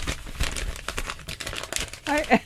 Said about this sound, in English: Then playing with your paper.